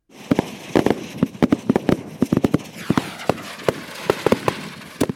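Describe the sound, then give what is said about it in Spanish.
Fireworks on New Year's Eve crackle and bang in a rapid, irregular string of sharp pops, some loud, others softer, continuing steadily with a faint hiss between bursts and no voices. “También en este día, escuchamos canciones de Santa Claus y vemos fuegos artificiales.”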